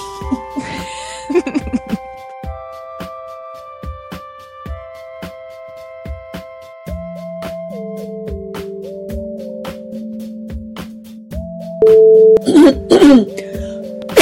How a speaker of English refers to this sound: Am I the only one who ever clears my throat and coughs on this podcast? I don't know. I mean, I edit it out every time, but I do it all the time.